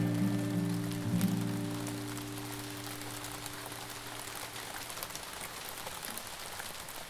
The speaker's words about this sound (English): Resonated the most for me was the sound of rain.